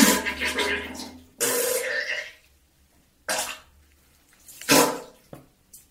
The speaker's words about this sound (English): And I'm back. Thank you for the fart sounds, for the poo-poo sound.